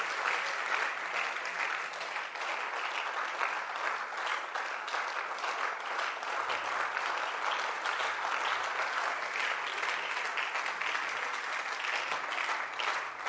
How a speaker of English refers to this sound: Or let your hand clap be a little louder.